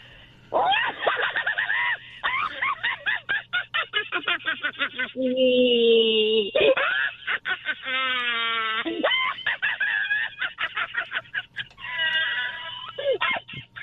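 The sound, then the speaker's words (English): A person imitates a Pomeranian's barking with rapid, high-pitched yaps and strained honking squawks, loud and nearly continuous from start to finish with no other talk. “A little barking going on there, too. Turned into a Pomeranian there.”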